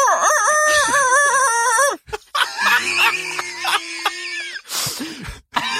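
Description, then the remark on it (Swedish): A person's voice mimics a rooster's crow, loud and strained, with one long warbling cock-a-doodle-doo, a brief pause, then a second rougher attempt ending in a throaty rasp. “Kan du ge en tupp imitation?”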